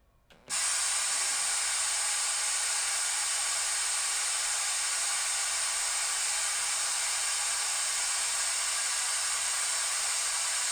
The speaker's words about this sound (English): Now here's white noise.